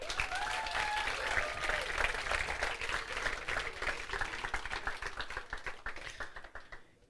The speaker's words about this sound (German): Also erst noch mal einen riesengroßen Applaus für das Anspielteam.